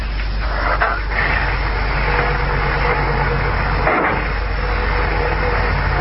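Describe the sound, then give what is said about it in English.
A steady engine drone and road rumble from a car on the move, loud and continuous for several seconds, with a brief dip around the middle and no voices. “I'll put you under the rug in the back of the car and I'll take you for a little ride.”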